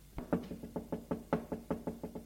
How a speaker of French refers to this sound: Gilles frappe à la porte du proviseur.